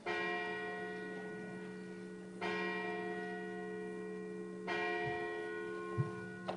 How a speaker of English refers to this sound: We're going to ring the bell as we continue with our worship.